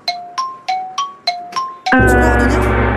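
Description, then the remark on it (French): A game-show gong marking time up in a word game: six quick bell dings alternating between two pitches, then a loud crash that rings on, sustained to the end. No one speaks. “Il y a le gong, qui est arrivé.”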